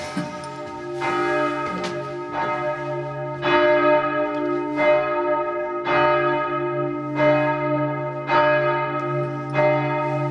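Church bells ring out loud, heard up at the bells in one of the two towers of a large church, with repeated strikes roughly every second or so overlapping into a rich, sustained peal with long humming tones beneath. No voices.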